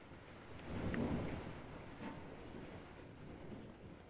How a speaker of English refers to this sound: And brought to you by some rain. Hey, let's get real quiet. I'm going to turn this up for a second, see if we can hear it.